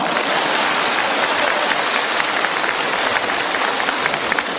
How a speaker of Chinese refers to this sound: 鼓掌。